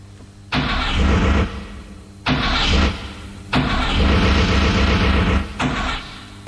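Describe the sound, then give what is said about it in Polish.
An old FSO Syrena car engine cranks loudly in four rough bursts with short pauses between as someone tries to start it, the longest attempt churning for about two seconds without any voices. “Zapraszamy do słuchania tej rozmowy i na początek spróbujemy zapuścić syrenę.”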